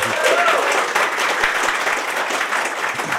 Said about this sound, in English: Big round of applause, please, for our guests,